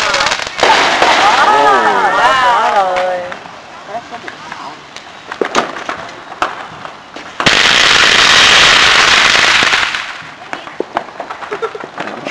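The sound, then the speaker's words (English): Strings of firecrackers rattle off in two long, loud bursts of dense crackling, with scattered sharp pops in between and wavering whistle-like tones early on, while voices can be heard underneath. “Ví dụ pháo này đốt mấy ông là nữ đốt hả?”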